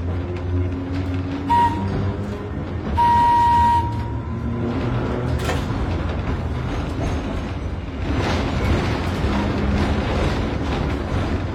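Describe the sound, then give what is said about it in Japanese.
An old streetcar, run only on special occasions such as events, with its original motor and a creaking wooden body, rumbles steadily along, its low mechanical drone filling the scene, with a couple of brief high squealing tones cutting in early on and no voices. “その姿やモーターは当時のまま。木造の車体をきしませながら走ります。”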